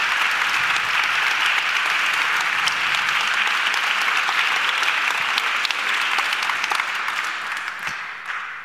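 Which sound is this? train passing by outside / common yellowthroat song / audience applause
audience applause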